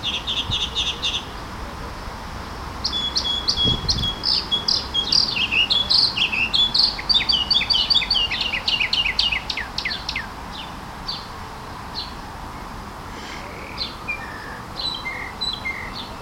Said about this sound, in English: And or maybe it's one bird with a very large repertoire. What do I know? So I'm hoping that the sound is being picked up.